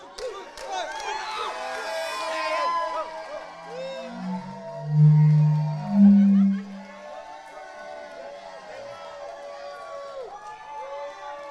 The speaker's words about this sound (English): These guys are your team. They're going to lead you to the championship. How many of you guys? So these guys, let's get pumped. Go, who, come on. Who. All right. You guys cheer them on as we go through. Come on.